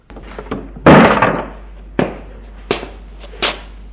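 door closing

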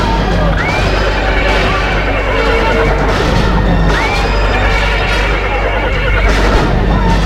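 horses neighing

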